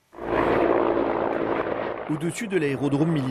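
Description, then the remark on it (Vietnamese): A loud, steady roar of several helicopters flying very low over Kramatorsk airport in Ukraine, bringing in troops to protect the base, fills the first two seconds, then a voice begins talking while the engine noise continues underneath. “Trên bầu trời sân bay Kramatorsk, một máy bay tiêm kích và nhiều trực thăng bay rất thấp.”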